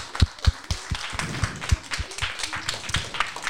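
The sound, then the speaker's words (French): A small group of people applauding the sixth-placed team during a results announcement, a quick patter of overlapping claps with a few sharper, louder slaps standing out in a steady rhythm for several seconds. “On peut applaudir quand même.”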